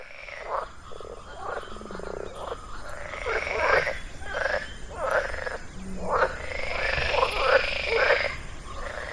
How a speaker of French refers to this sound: En même temps, on ne les écoute jamais, les grenouilles. Hein. C'est pas plus mal de leur donner la parole une fois de temps en temps.